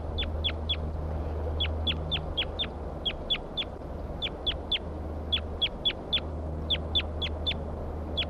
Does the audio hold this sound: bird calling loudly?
yes